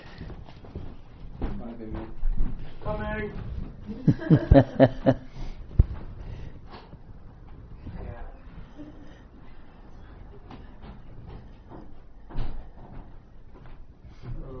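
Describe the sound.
A door is unlocked and opened, a quick run of sharp metallic clicks and knocks, with a person speaking briefly and soft laughter around it.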